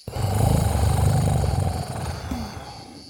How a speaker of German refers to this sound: Offensichtlich liegt da jemand drin, der schnarcht.